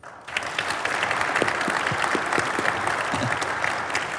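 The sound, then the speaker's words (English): An audience at a conference breaks into steady clapping as a straw poll on loving score targets, a dense, loud patter of many hands that starts abruptly and keeps going without pause for several seconds. “Can you please clap if you love score targets?”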